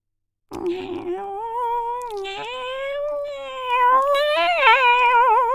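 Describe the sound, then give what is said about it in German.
A cat lets out one long, drawn-out meow that wavers in pitch and swells louder toward the end, with nothing else around it. “da sind Sie ja endlich, miaute die Katze.”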